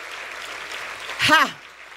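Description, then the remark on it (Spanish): An audience applauds for God the Father in a steady, dense wash of clapping. Partway through, a single voice rises briefly above it with a rising then falling cry before the clapping continues more softly. “Dale fuerte ese aplauso a tu Padre.”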